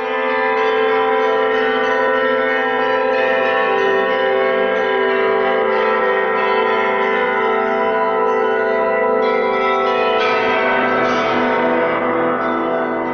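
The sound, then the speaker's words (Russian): Church bells rung by Alexander Zhikharev, bell ringer of the Kolomenskoye museum and bell master-inventor, ring continuously in a dense, overlapping peal, their rich metallic tones layering and sustaining throughout, loud, with fresh strikes breaking through near the end. “Александра Жихарева, звонаря музея Коломенское, колокольного мастера-изобретателя, записала Тамара Левенкова.”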